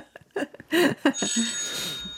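signal or alarm, mobile phone ringing

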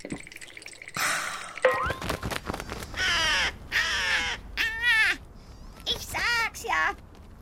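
bird, crow cawing

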